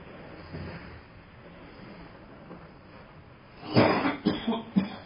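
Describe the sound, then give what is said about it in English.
A man coughs in a loud, harsh burst of several hacking coughs near the end, following a few seconds of quiet. “laughing over there, coughing himself to death.”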